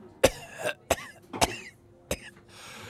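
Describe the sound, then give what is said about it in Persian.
A sheikh suffering from shortness of breath coughs in a rough, repeated fit, four or five harsh hacking bursts spaced unevenly, fairly loud, with faint breathy sounds between them and no talking. “طبیب، این سرفه ها امانم را بریده، نفسم بالا نمیاد.”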